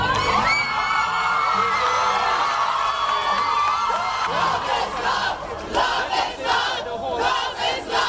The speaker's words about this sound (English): Crowds on the steps of the Hall of Justice in Port of Spain, the capital city of Trinidad and Tobago, erupted in cheers on learning that the High Court had struck down the Caribbean nation's archaic anti-gay sodomy statutes.